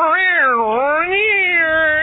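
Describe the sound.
A person loudly imitates a Siamese cat that lives down the street yowling in the middle of the night, one continuous nasal wail that dips and rises in pitch for about two seconds, with no other talking.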